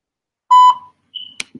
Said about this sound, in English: All right, so anytime I have to drop a voicemail, I have to wait for the beep. That's what you just saw. We just dropped the voicemail.